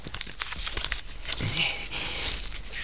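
Continuous crinkling and tearing of thin metal foil and paper as a small piece of paper is found inside a metal foil band on a dead pigeon's leg, a dense crackle of small rustles lasting a few seconds with no voices.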